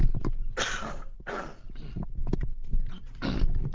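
A person with a scratchy throat gives a few rough, throaty coughs in quick bursts after taking off a headset, with a raspy throat-clearing quality, slightly muffled. Nobody speaks.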